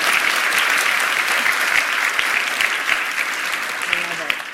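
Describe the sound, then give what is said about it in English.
A crowd applauds steadily for several seconds, a dense, loud wash of many hands clapping together that stays even before easing slightly at the end, with some voices faintly mixed in. “Can we give them a hand clap just one more time?”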